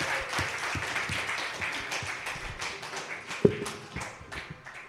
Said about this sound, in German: Lass uns doch der Band mal einen großen Applaus geben. Ja, echt der Hammer.